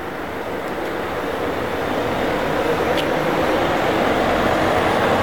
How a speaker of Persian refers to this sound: اه ماشین پلیس داره اینجا رد میشه، ببینیم که بهمون گیر میده یا نه.